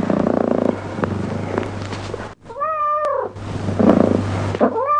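A cat purrs with a steady low rumble, interrupted midway by one drawn-out meow, with another meow beginning right at the end. No one speaks.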